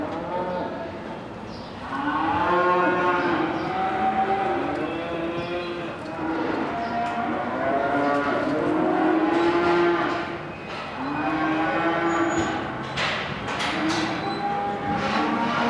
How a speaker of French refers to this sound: Elles sont quel âge les bêtes que vous vendez aujourd'hui ? Un an, à peine. 11 mois. Ce sont des limousines ? C'est des limousines.